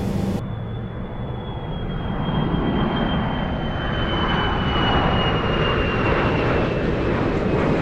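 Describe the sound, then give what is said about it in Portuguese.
A loud airplane engine roars steadily, a high whine gliding slowly downward above the deep rumble as the sound swells slightly, with no voices, as the plane arrives at its destination. “O avião chegou a seu destino.”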